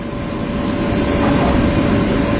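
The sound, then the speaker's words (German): An air conditioner hums steadily and loudly, a constant low rumble with a faint thin tone running through it, unchanging for the whole stretch with no voices. “Wäre jetzt ein ähnliches Geräusch wie die Klimaanlage, die wir hier hören, Form eines Baches.”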